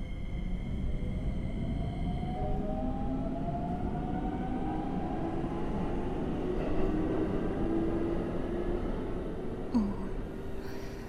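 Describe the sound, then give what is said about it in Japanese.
A train rumbles steadily along the rails, a dense low roar with faint whining tones sliding upward over it, continuous throughout with no voices. “改札とか電車とか、世の中はわからないことだらけだ。この座席も最初は座っていいのか全然わからなかったぞ。”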